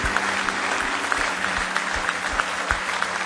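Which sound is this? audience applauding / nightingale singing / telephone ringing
audience applauding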